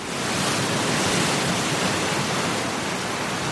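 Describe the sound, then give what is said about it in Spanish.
Rough sea surf roars steadily and loudly, a dense, unbroken wash of crashing waves with no distinct individual breaks and no voices, during an orange alert for coastal phenomena as storm Mónica brings rain and cold; the Musel buoy recorded waves over 9 metres. “Estamos en alerta naranja por fenómenos costeros y no está siendo poca la broma. La boya del Musel ha registrado olas por encima de los 9 metros.”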